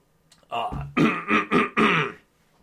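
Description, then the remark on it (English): Someone clears their throat with a short run of harsh, rough rasps, about four forceful bursts in quick succession after a low guttural start, fairly loud with no talking, after getting a little water to clear the throat. “Let me get a little water to clear my throat here.”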